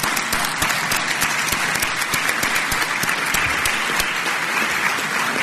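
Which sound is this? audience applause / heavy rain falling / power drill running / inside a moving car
audience applause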